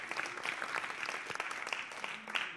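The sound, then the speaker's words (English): An audience claps steadily, a dense patter of many hands that stays at an even, moderate loudness throughout, with no voices standing out. “Give him a round of applause, especially poor old Donald Trump.”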